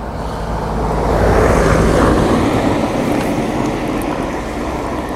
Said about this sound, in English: Sound like a train. There's no trains on this island. Must have been the ferry.